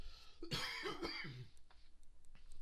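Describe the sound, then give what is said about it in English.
A person coughs and clears their throat, a rough burst followed by a second harsh clearing, then trailing quiet breathy noise. “I was thinking about buying one of those cough switches.”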